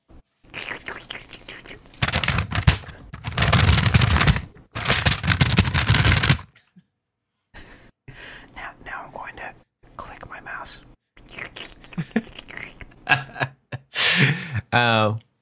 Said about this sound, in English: This is my ASMR. I still don't know quite what that acronym is, but now I'm going to crumple some paper.